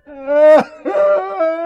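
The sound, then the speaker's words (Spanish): Judas weeps and wails aloud in long, sobbing cries in the orchard where he last saw Jesus, his voice breaking and catching between drawn-out moans, loud with no words spoken. “Nadie oyó el llanto de Judas.”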